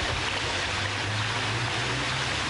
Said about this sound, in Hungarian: Szinte folyóként hömpölyög a megáradt Kondoros Debrecenben.